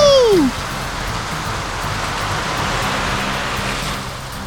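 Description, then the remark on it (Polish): A quick descending whistle-like slide gives way to a steady, hissing rush of sand pouring out as a truck dumps its load of sand, like heavy rain, holding at an even loudness for several seconds. “Zrzucam piasek!”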